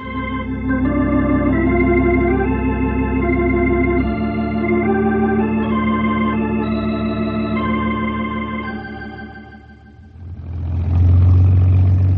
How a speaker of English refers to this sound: Thought we was going to have a close-up look at your flying machine. Slim will cut the engine in just a minute.